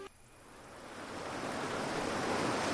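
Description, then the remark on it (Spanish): Sea waves wash in at the Paseo de Samil with a broad, hissing roar that swells steadily louder over a few seconds, a continuous rush of surf with no voices. “Se puede hacer, por ejemplo, un tramo del Paseo de Lagares y acabar, sin ir más lejos, en el Paseo de Samil, escuchando las olas del mar.”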